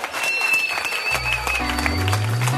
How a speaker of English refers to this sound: Hey, give Jesus a hand clap. Воздайте славу Иисусу.